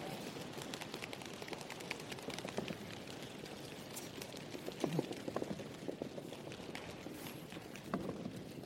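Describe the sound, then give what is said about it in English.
Heavy rain pours down in a steady, dense hiss, peppered with countless sharp drop impacts that patter and tap continuously without letup. “Listen to that rain. Listen. Boy, it's pouring now.”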